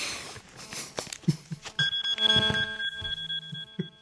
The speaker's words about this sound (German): Natürlich klingelt mein Telefon und versaut die Aufnahme total.